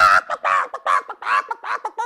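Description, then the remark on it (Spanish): A hen named Rosaura cackles loudly in a tantrum, a rapid run of about seven harsh, squawking bursts with brief gaps between them, with no other sounds around it. “Comenzó a cacarear tan fuerte y se puso tan roja y se desplumó completa.”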